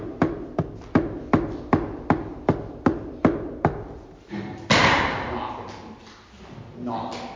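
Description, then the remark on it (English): About eleven sharp, evenly spaced knocks on a door rap out in a steady rhythm, then stop as a louder, muffled wash of voices or noise takes over. “Jesus is knocking on every single person in this whole world. Knocking on their door.”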